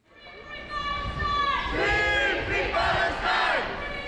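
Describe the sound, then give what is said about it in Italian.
A crowd cheers loudly in the small arrivals hall of Cointrin airport, Switzerland, holding balloons and Palestinian flags as returning activists arrive, many voices shouting and chanting together in rising, sustained waves of excited, high-pitched cries that swell after the first second and stay strong throughout. “Un gruppo compatto spicca nella piccola hall di Cointrin, palloncini e bandiere palestinesi.”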